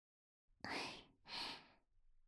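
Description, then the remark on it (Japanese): A breathy yawn drawn out in two long airy exhalations, the first with a faint vocal whine, followed by quiet breathing and no talking. “あくび大丈夫ですかね。”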